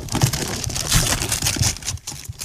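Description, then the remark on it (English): Pink polka-dot wrapping paper crinkles and rustles in a steady, busy stream of crackling, with a few rougher tearing bursts and no voices. “It's pink polka dot paper.”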